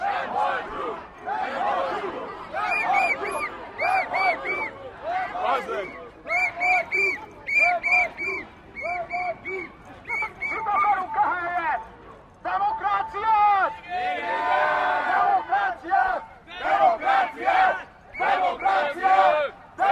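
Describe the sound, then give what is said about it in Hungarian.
A protest crowd on Múzeum körút, beside a line of police, chants for democracy in loud, rhythmic unison, the repeated shouted phrases rising and falling in steady bursts with a continuous roar of voices beneath. “Hallottuk, hogy a tömeg ugye demokráciát akar, most itt van a tömeg a múzeum körúton, rendőrös sorfal mellette,”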